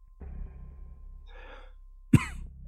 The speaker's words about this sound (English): I coughed violently.